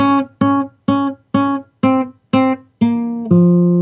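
A guitar riff in B flat minor: six short, identical plucked notes in an even rhythm, then two longer sustained notes settling lower. Loud and clear, with no talking.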